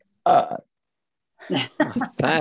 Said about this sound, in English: Okay, guys, here we go. Burping.